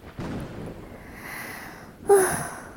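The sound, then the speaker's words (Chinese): Heavy, breathy panting after running through sudden rain into a shopping mall: a long rasping exhale followed by a sharper, louder gasp with a slight voiced edge, no talking. “哎呦喂，你慢点喘气，深呼吸。”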